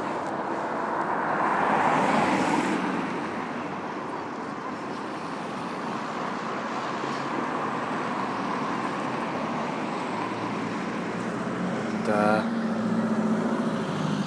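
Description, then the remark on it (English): Steady street ambience recorded while walking along a busy road on the way to the train station and theatre, with a continuous wash of passing traffic and engine rumble, swelling briefly at the start and again near the end, with faint chatter mixed in. “Just recording the ambience for an audio boo. If you're walking.”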